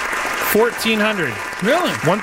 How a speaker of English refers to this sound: I need to get to the applause.